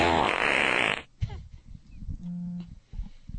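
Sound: fart sound effect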